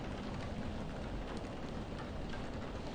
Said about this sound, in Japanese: 雨宿り？ああ、つい今さっきになって急に降り出したね。しかし、真夏というわけでもないのにこんな嵐なんて。しかも今日の天気予報は降水確率 20-30% の晴れだったはずだが。